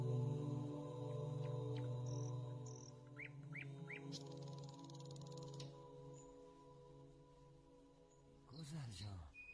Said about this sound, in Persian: نگاه کن قناری ها میگی امشب خواب ندارن، مدام میخونن.